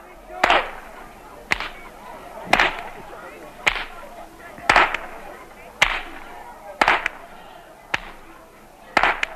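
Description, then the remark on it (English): Whips crack sharply outdoors as older boys roam through village streets cracking them, about ten loud snaps in a steady rhythm roughly a second apart, each a bright, piercing report over a low background of street noise. “Some of the older boys roam through the streets cracking whips, loudly chasing winter away.”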